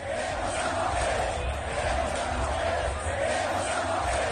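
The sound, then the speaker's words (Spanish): A large stadium crowd of Real Madrid supporters chants "queremos a Mbappé" in unison, a loud, steady roar of many voices with a rhythmic, repeating cadence that holds throughout without pause. “Bueno, hay que decir, Ángel Expósito, que el madridismo tiene un sentir, el madridismo tiene una esperanza, el madridismo tiene una ilusión y el madridismo tiene un grito.”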